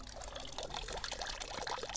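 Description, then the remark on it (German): Steady splashing and trickling of water from the Spargelbrunnen (asparagus fountain), a tiny fountain that looks like a drinking-water fountain, a continuous bright, bubbling patter at moderate volume with no voices. “Ich habe extra meine Brüste ins Wasser gehalten, damit man hört, wie es hier so plätschert.”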